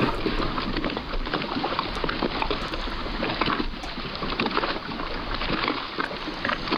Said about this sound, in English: Water laps boat, yeah.